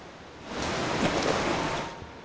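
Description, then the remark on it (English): Water splashing and churning as swimmers at a swim club step up one after another and dive into the deep end of a pool, a broad rushing wash that swells for a couple of seconds before easing off, with no voices. “One after another, the swimmers step up and dive into the deep end.”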